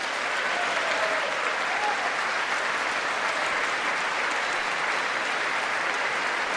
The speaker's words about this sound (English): Now, at least this time, the Democrats got up to clap. They're not totally stupid, folks.